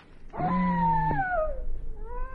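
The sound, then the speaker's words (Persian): A wolf howls at night by the plains and forest: one long, steady, tonal cry that slides downward in pitch at its end, followed by a softer second howl rising at the close. No voices are heard. “این چیه؟ سیغه گرگه.”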